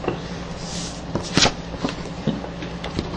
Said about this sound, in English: There you go, pops the lock.